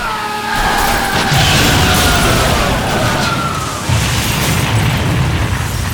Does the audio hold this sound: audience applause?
no